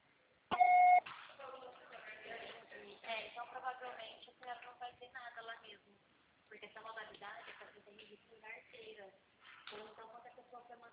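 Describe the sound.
A single loud, steady electronic beep from an answering machine lasts about half a second, then people start talking and keep going in uneven bursts.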